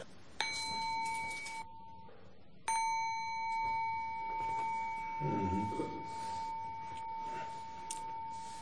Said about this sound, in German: Dann machen wir doch gleich mal Buddha Anusati für ein paar Minuten. Und ich klingel dann immer und dann geht er wieder weiter.